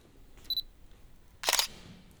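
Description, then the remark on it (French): A short electronic beep, then a crisp camera shutter click with a quick double-snap mechanical burst as a photo is taken with a tyrannosaurus at a museum, sharp and fairly loud against a quiet background with no talking. “Prends-moi en photo avec lui, s'il te plaît.”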